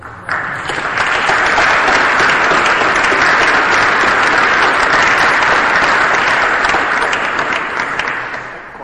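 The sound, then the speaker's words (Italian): Sustained audience applause for Carlo Maria Martini, who wrote the letter read out, and Don Mario Trascelli: a dense, steady wash of many hands clapping that swells in quickly, holds loud for several seconds, then begins to taper at the end. “Io propongo un applauso a Carlo Maria Martini che ha scritto questa lettera e a Don Mario Trascelli.”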